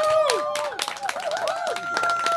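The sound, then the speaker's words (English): A live audience at LA Live bursts into applause, dense clapping layered with whoops and high whistles, loud and sustained throughout with no clear speech over it. “Let's get a hand of round of applause for LA Live right now.”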